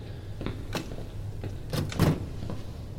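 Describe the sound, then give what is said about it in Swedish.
Someone rattles and tugs at a locked door that won't open: a few sharp knocks and clunks of the handle and frame, with a heavier jolt near the end, fairly quiet. “Den är låst.”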